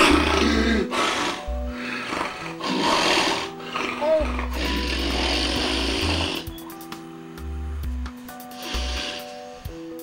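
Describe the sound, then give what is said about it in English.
A man snores loudly in harsh, rasping bursts, with uneven pauses between them and sudden gasping intakes of breath as he sleeps at home, filmed on a home video. “It sounds like he's gasping, like he's actually not breathing for a couple seconds at a time.”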